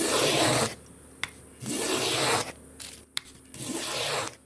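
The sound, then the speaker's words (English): Three long, steady rasping strokes of a hand plane shaving wood for a guitar in a workshop in the bush near the town of Bruderstroom, North West province, South Africa, evenly spaced, with quiet pauses and a couple of sharp little clicks between strokes. No one speaks. “Davis planes wood for a guitar in his workshop in the bush near the town of Bruderstroom in South Africa's northwest province.”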